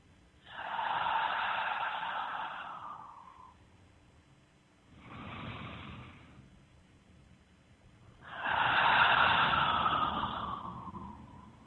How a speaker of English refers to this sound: Where you're just calmly breathing very deep. And when you're breathing that deep, you're allowing that energy vibration to move through every cell in your body.